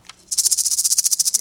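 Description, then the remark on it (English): A man's voice imitates a rattlesnake's rattle: a rapid, steady, hissing buzz pulsing about a dozen times a second, starting abruptly after a brief quiet moment and holding loud. “himself worked up a good rattlesnake.”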